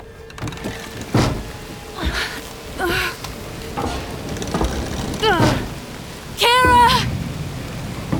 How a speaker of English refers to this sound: The rain.